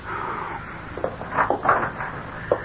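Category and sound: household object, door being opened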